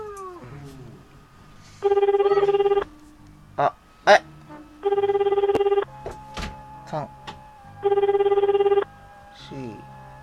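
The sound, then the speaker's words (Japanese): A phone line ringing out on an outgoing call from a radio show to a listener's mobile phone, being recorded: three steady, buzzy ringback tones, each about a second long and spaced evenly roughly three seconds apart, with brief scattered noises in between. “で、いただけた方がいたんでかけますね。録音してる。”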